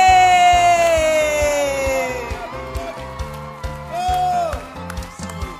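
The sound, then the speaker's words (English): A crowd cheers over a steady rhythmic beat, welcoming a visiting reverend. A long, high whoop slides downward, then scattered claps and shouts follow, fairly subdued rather than a roaring ovation. “this year that your clapping is very weak.”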